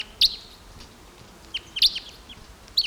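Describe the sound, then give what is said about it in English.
Crossbills calling, including a deep-voiced male: a few sharp, high chip notes in separate bursts, one early, a cluster near the middle and another at the end, over a faint steady hiss with no talking. “Some crossbills here now. There's a male. Deep voiced male here.”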